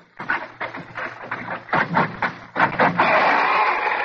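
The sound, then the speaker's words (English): The door of an old building on Furman Street near the Brooklyn waterfront, home of E.R. Squibb and Company, is unlocked with a key and swings open on squeaky hinges, first a string of short, rough creaks, then a long, loud, whining squeal that holds steady to the end. No one speaks. “I can see the first order of business is to oil the hinges.”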